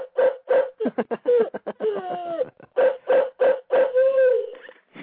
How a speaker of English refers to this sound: That's my toy dog. That's your toy dog.